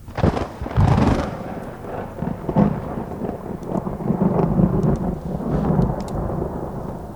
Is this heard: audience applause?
no